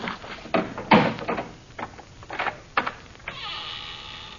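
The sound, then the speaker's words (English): A heavy old door, unopened for 1,000 years, creaks open in a series of loud, groaning strains, ending in a long, drawn-out squeal of the hinges. No voices are heard. “You see, Effendi, it has not been opened for 1,000 years.”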